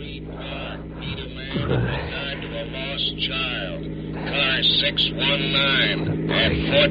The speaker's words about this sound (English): Police car cruising.